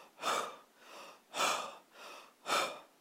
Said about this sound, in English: This is an intense part of the Bible and is trying to communicate to us here the words of every breath. Now, it signifies an emphatic deep breathing like this.